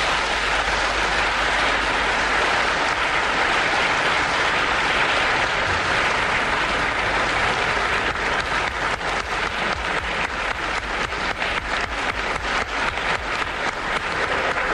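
Loud, sustained applause from the members of the Croatian parliament, all standing, for President Franjo Tuđman's proposed decision recognizing independent Slovenia, fills the whole clip, a dense wash of clapping that turns into more rhythmic, synchronized clapping in the second half, with no voices.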